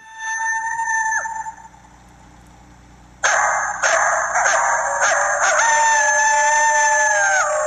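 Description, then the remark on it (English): Coyotes in a driveway at night howl and yip: one wavering howl trails off, then after a brief lull a loud chorus erupts, with overlapping sliding howls and rapid high yips continuing to the end. No one speaks. “These sound like coyotes.”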